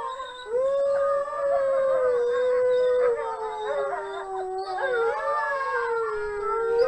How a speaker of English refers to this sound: Okay, let's hear some animals. We're going to start with wolves. You've worked with wolves a lot. This is a wolf chorus.